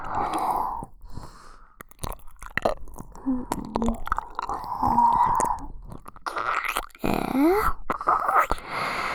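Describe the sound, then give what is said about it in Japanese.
Wet ear-licking and slurping mouth sounds continue in an irregular rhythm, with moist smacks, soft sucking and occasional breathy moans, fairly loud and with no talking. “お耳ペロペロで欲張しちゃう。”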